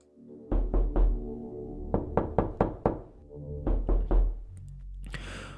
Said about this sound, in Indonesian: Tiba-tiba saya dengar ada orang ketuk pintu.